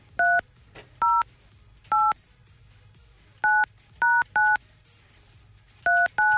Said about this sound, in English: You got the number there? Got the number here. Let's dial it up.